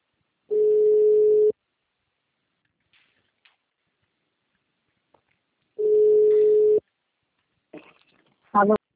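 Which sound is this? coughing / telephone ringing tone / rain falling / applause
telephone ringing tone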